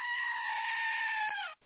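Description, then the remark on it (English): A single loud, sustained goat bleat with a strained, screaming quality, held steady for over a second before breaking off, followed by a brief faint tail. “Where's the goat with I agree.”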